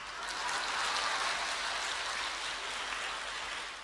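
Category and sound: crowd, audience applause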